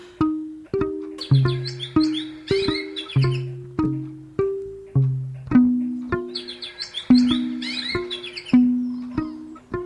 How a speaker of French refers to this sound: Oh, dans les Ardennes, c'est la sérénité, la paix des bois, le chant des oiseaux. Cette sérénité qui règne dans la campagne.